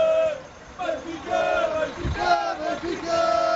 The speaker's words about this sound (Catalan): Són els crits dels seguidors del Benfica que han rebut l'equip portuguès.